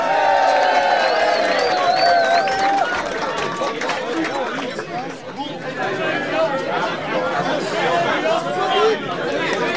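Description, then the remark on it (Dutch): A crowd applauds and cheers for several seconds to welcome a performer called the Masker, a dense, steady wash of clapping mixed with shouts and high whoops, loudest at the start and staying strong throughout. “Een applaus voor de masker.”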